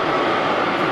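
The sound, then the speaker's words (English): A huge crowd of about 6,000 people roars together, doing their best Wookiee roar, forming a loud, dense, sustained wall of voices that fills the brief moment without a break. “That's the sound of 6,000 people doing the Wookiee roar.”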